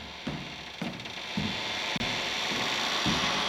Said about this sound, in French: En voulant emprunter les escaliers, il entendit un grincement sinistre.